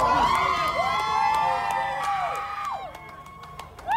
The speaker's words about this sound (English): They had gathered to witness this decision, and as he walked out, he was greeted with cheers from some of his fans, if you can call it that, or supporters. Here's what it sounded like.